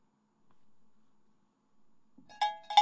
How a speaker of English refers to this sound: That's a jingle for Pinochle, because this is probably the only radio program anywhere in the United States today, maybe the world, where the word Pinochle has been used in conversation.